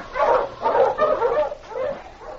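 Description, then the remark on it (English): Sled huskies bark in a quick, steady run of overlapping yelps and woofs, several dogs at once, loud, with no one speaking. “Mush you, Huskies!”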